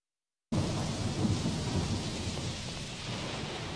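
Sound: thunderstorm with rain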